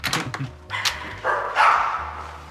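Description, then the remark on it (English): A dog named Wolfie barks several times in quick, sharp bursts, then lets out a longer, drawn-out bark, fairly loud, with no talking. “Bye, Wolfie. Don't you guys worry. I have a gift with dogs, okay?”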